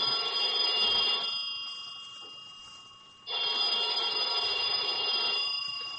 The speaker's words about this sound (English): About noontime, when the phone rang, I knew it was the clerk downstairs calling, because I'd left a call for 12. I let the phone ring.